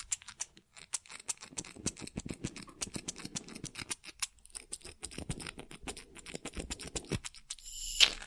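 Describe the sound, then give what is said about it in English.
Rapid, crisp scissor snips trimming bangs during a makeover, a steady run of sharp metallic clicks and shearing swishes for several seconds, ending with a brief brighter rustle. No voices. “Let's give your bangs a little trim.”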